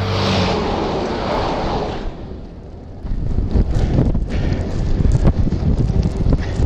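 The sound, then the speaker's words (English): A road train passes going the other way on a road, roaring past in a loud, broad whoosh that fades after a couple of seconds, giving way to gusty, buffeting wind noise and a low rumble. “Quite a few road trains on this road. One coming up, just going past me the other way now.”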